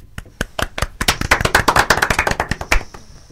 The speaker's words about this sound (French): La reine se leva et applaudit le vainqueur.